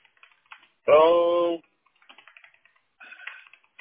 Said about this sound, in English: Okay, so I already started typing. I put phone call usually available around 3:30 PST, which is 6:30 your time.